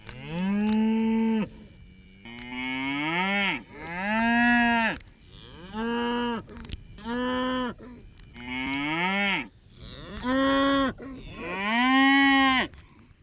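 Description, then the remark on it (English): A cow giving birth moos over and over, about nine loud, strained bellows in quick succession, each rising and then falling in pitch, with short breathy pauses between them and no talking. “Here's 14 seconds of a cow giving birth.”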